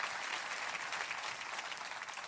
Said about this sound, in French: Tellement simple. Une bonne main d'applaudissement pour la simplicité de la parole de Dieu, la foi en Christ.